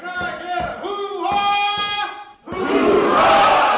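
A single voice gives several loud, drawn-out rallying shouts, then a crowd erupts into broad, sustained cheering and whooping that fills the rest of the moment.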